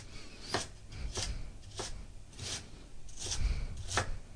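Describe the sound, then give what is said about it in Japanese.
A knife coarsely minces thinly sliced lotus root, laid lengthwise and cut from one end, on a cutting board for mixed rice, in steady, evenly spaced strokes, about seven crisp thuds with no talking. “そしたら今細切りになったレンコンを横長に置いて、端から粗みじん切りにしていきます。”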